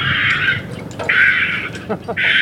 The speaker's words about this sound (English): It's a sunny day at Lake Merritt, and biologist Steven Peterson is up in a tree testing a speaker. It's playing a recording of herons.